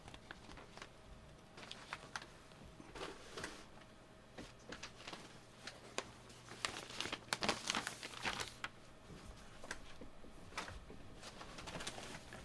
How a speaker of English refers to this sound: Pardon me for the dead air, but my paper's all dropped on the floor. Now I'd like to read. I love this sound. I think I said that before, the crinkle of newsprint, almost as well as the pop of a cork out of a wine bottle.